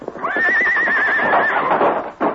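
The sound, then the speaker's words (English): Silver, the Lone Ranger's horse, lets out a long, quavering high whinny at a corral after being told to break down the door, while hooves thud and stamp beneath it, ending with a final heavy clop. “It's plenty dark by corral. All right, Silver. Time for you to go to work. Break down the door.”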